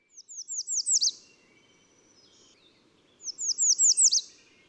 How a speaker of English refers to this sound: And then American Redstart is number 10.